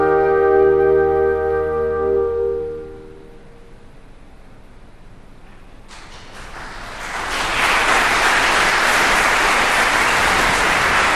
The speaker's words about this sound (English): There is nothing like having a rapt audience hang on your every performance gesture and then erupt into spontaneous applause.